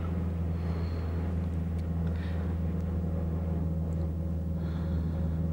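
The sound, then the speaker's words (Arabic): A steady, low engine rumble from inside a moving car fills the whole stretch, with faint road noise and occasional soft rattles. No one speaks. “أوقف السيارة”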